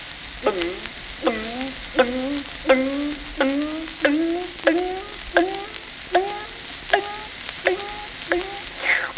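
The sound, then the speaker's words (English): A hand water pump handle being raised and lowered, with a bucket under the spout, its metal squeaking out about a dozen steady, evenly spaced strokes, each a whiny, gliding squeal, over a constant hissing background with no talking. “The pump performs its intended duty and we hear its voice.”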